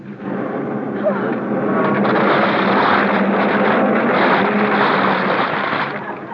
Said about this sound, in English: I can't hear you over the sound of the motor. Ah, the motor! It's running!